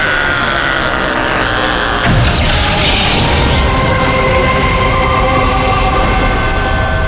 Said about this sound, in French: Regardez! Le fait d'avoir détruit le vaisseau amiral, ça a provoqué l'explosion de tous les autres Noéliens! Waouh! C'est formidable! Toute cette flotte détruite!